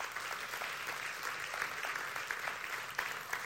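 An audience claps steadily as a student comes up, a dense wash of many hands with scattered sharper claps standing out, holding at an even moderate level throughout with no voices heard.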